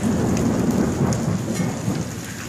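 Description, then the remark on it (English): Heavy rain pours steadily with a deep, rolling rumble of thunder underneath, loud and continuous throughout, with no voices; a storm recorded on a phone by a man who was watching and filming it. “He was watching the storm. He was videotaping it with his phone.”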